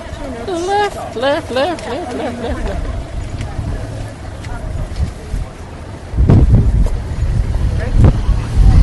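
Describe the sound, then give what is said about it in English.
Steady street traffic rumbles along a busy road at a zebra crossing in London, not stopping there, with a vehicle growing louder as it passes by near the end; indistinct voices are heard early on amid wind. “It's a zebra crossing, but no, the traffic's not stopping there.”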